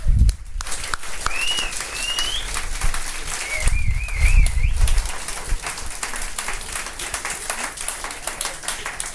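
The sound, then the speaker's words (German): A crowd applauds steadily throughout, a dense crackle of many hands clapping, with a couple of rising, warbling whistles cutting through early on. “Applaus, ja. Applaus für euch auf jeden Fall.”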